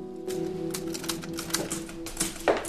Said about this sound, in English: At home, he works with his typewriter as his little sisters come in.